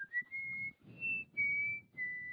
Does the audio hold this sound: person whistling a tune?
yes